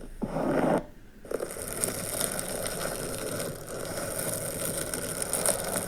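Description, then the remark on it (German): Long fingernails scratch and squeak across a balloon, starting with a loud harsh burst, a brief pause, then a continuous grating scrape that keeps going with no voices. “Also das sind übrigens lange Fingernägel, die an einem Luftballon krass kratzen.”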